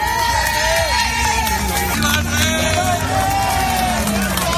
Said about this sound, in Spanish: Aplausos, vítores, un recibimiento muy parecido a los de este fin de semana en la localidad de Sanjenjo.